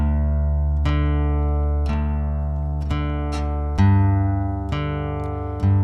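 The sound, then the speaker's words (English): Slack key guitar plays a steady alternating bass: deep plucked notes fall on a regular beat, each one ringing out and sustaining beneath the next. There is no voice. “It's this alternating or revolving bass.”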